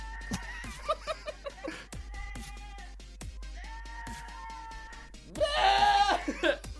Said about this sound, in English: Okay, funny goat screaming like humans. Just turn it up real fast. This is my laptop playing. Is that a goat? Those are fake, right? Nope, that's a real goat.